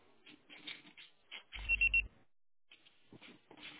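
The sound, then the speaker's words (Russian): A loud electronic voicemail beep, pulsing briefly about three times, follows a muffled recorded voice. After a short silence, someone begins talking. “Пожалуйста, попробуйте перезвонить позже или оставьте свое сообщение после звукового сигнала.”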